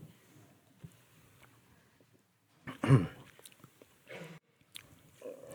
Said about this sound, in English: Let me get a sip after that.